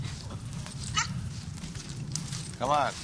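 A dog barks a couple of times, a short yelp early on and a louder, tonal bark near the end, over a steady low rumble of background noise.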